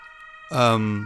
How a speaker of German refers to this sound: Gegen die Sirenen kann ich nichts machen. Die müssen jetzt einfach vorbeifahren.